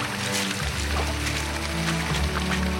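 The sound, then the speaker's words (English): Steady rushing water pours and splashes without pause, cascading off an unstable cliff face at a beach, where surfers shower in the cascades to rinse sand off their boards; a dense hiss fills the scene, with a low droning hum running underneath throughout. “There's water cascading off the side of it.”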